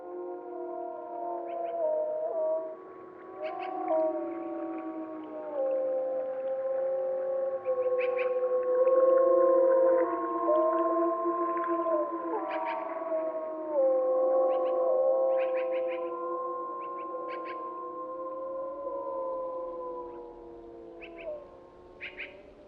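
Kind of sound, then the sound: animal, wolves howling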